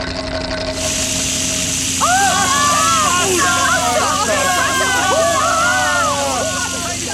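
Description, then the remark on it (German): A huge water fountain suddenly shoots up high: a steady, loud rush of spraying water starts abruptly and keeps hissing. An excited crowd of voices soon joins in, cheering and shouting over the torrent. “Tatsächlich. Wasser. Eine riesige Wasserfontäne schießt in die Höhe.”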